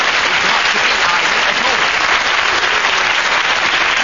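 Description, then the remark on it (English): Loud, dense applause from an audience at the end of a game round, a steady wash of many hands clapping at once that holds at full strength for the whole four seconds without fading. “The audience were clapping because...”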